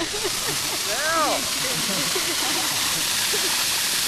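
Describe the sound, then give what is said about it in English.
A steady, loud rush of water spraying into the air from the hose of a snowpack steam drill as the water is cleared out of the line, a broad hissing roar with faint voices murmuring underneath. “Okay, so you can just stick it out, and I'm just going to shoot water in the air from just by getting all the water out of the line.”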